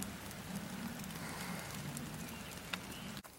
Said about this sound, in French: Il pleut tout à l'heure.